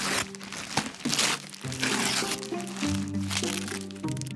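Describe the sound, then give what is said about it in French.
Wrapping paper crinkles and crackles almost continuously for a few seconds, fairly loud, as a gift package is unwrapped at midnight, with a steady tonal background like faint music underneath. “À minuit, chacun déballait son paquet sous le regard des autres qui le commentaient.”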